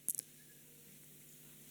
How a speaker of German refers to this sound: Ich muss klicken.